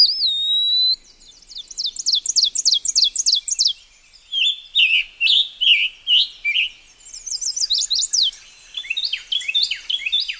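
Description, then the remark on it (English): A pewee sings alone outdoors in woods: a clear, high sliding whistle, then bursts of quick repeated chirping notes and varied whistled phrases, bright with short pauses between runs. “How different these woods must look to the peewee after a winter in the lowland forest of Peru.”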